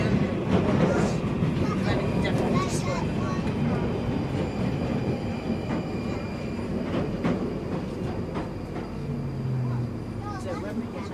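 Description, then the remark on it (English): A subway train terminating at Kennington rumbles steadily along the track between stations, with Goodge Street next: a loud, continuous roar with rattling carriage clatter and faint metallic whines rising now and then. “This train terminates at Kennington.”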